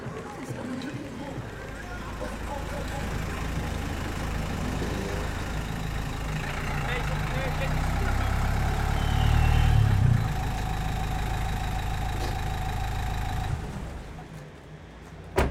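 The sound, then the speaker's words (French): Low, steady engine rumble of buses crossing diagonally over an open four-sided city square, the Place du 8 Septembre, swelling louder midway before easing off, with a faint murmur of street life behind it. “en fonction aussi de la trajectoire des bus qui traversent en diagonale cette place, il va toujours pouvoir se situer sur un des quatre côtés.”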